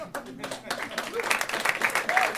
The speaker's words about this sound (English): A Martin Short level of applause for my opening gambit.